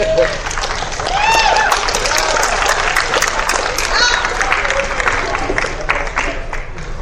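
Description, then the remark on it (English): A crowd at a convention applauds steadily for several seconds, dense overlapping claps at an even, loud level, with a few rising whoops and cheers scattered on top. “I was like, where's the applause?”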